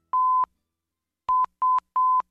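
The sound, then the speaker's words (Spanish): Clear, steady electronic beeps in Morse code: one long tone, a pause, then three shorter beeps in quick succession, loud with no voices. “Justo hoy, el código Morse cumple 175 años.”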